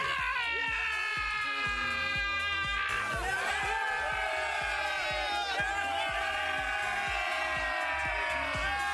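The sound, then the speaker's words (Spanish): Liverpool Football Club players chant and shout together in their locker room after a match, loud, sustained male voices in unison over a steady thumping beat of music, the cheering surging again partway through. “Hubo gritos, hubo cánticos y también hubo baile como este que acompañaba esta música.”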